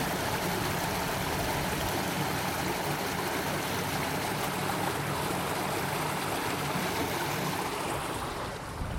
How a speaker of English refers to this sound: So we've got like a small channel. And next this water's just running away. Diverting the lock under a little tunnel. Like a brick-built tunnel.